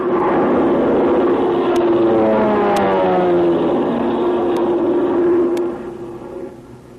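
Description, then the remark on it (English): A steady propeller-plane engine drones loudly, its pitch sliding gradually as it passes overhead, then fading somewhat toward the end. No voices are heard. “Well, wonder who's at the controls of the plane.”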